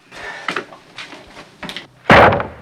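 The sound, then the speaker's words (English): A front door is handled with a few scraping clicks and knocks as someone comes through it carrying timber, then it swings shut with a loud thud near the end. No one speaks. “Clint comes through the front door carrying timber.”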